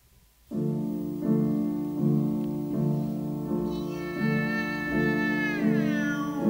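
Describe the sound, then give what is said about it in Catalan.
Two operatic singers meow at each other in a comic duet of two cats, voices imitating cats with long sung meows in repeating phrases; a brighter, higher voice joins halfway through, loud. “Veus de gat, no? Dels dos gats, és el duet dels dos gats.”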